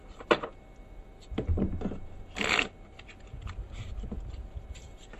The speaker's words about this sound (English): And I have brought along numerous decks of cards tonight. And this one is the absolutely standard deck. It's all mixed up, but I'll shuffle it nonetheless.